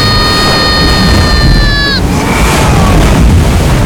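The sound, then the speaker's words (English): A giant wave crashes on a boat from the starboard side in a storm: a heavy, unbroken roar of surging water and wind, with a shrill multi-toned whine that bends downward and cuts out midway. “Giant wave off the starboard side.”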